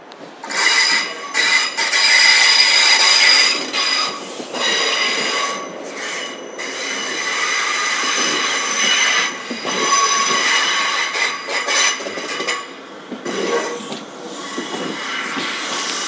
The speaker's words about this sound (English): I think that awful sound is known as wheel flange noise, and it's basically the bit of the wheel which keeps the train on the track, that guides it effectively. It's it being squeezed against the rail as it goes around a fairly tight corner.